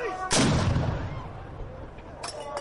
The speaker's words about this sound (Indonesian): Suasana pun semakin meriah ketika dentuman meriam terdengar, menandai waktu berbuka puasa pada hari pertama Ramadan di Turki.